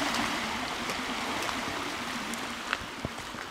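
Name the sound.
flowing creek water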